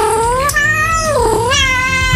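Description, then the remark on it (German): A kitten meows loudly, one drawn-out cry that rises, dips and climbs again, with a short break in the middle, heard alone. “Das ist ein süßes kleines Kätzchen und um genau die soll es heute gehen, an diesem 16.”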